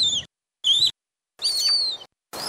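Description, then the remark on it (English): Rhesus monkey calls, played to 16 human volunteers in a study: four short, high-pitched tonal cries with slightly rough edges, separated by brief silences. The third is longer, with tones that rise and fall. No one speaks. “The team had 16 volunteers listen to calls from rhesus monkeys.”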